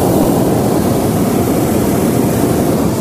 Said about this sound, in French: Donc, l'air chaud, 2-3 petits coups de brûleur, hop, et on décolle.